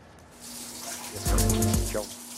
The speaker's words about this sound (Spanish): Mientras caen lentamente en los pisos de la cueva, las gotas cargadas de mineral del agua que forman las estalagmitas crean un archivo del clima cambiante fuera de la cueva.